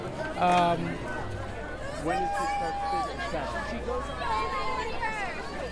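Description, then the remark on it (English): A crowd mills around at Senator Warren's political rally at the Washington Square Park Arch, many overlapping voices blending into a steady murmur of chatter, with a few brief louder calls and tonal bursts rising above the hubbub. “and there's an American flag in the middle of the arch and these two vertical blue Warren signs on either side of the arch, and just a lot of people milling around, some marijuana smoke, not gonna lie.”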